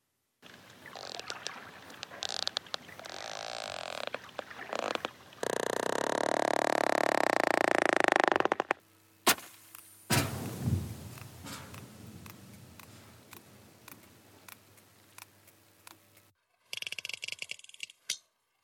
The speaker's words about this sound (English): These are the sounds of the mighty sperm whale, a fellow mammal that can dive almost a mile, hold its breath for more than an hour, and lives in these amazingly complex matriarchal societies. These clicks you heard, called codas